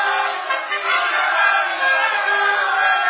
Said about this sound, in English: What means this shouting? I do fear the people choose Caesar for their king.